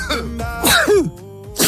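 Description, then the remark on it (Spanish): A raspy cough with throat-clearing, a harsh burst followed by a strained voiced rasp, then a brief quieter pause and another short cough at the end. “El de las toses, estornudos y congestiones.”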